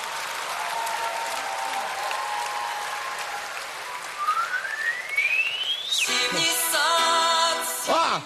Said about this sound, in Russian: Мы придумали вот свисток. Что он делает? Когда чайник закипает,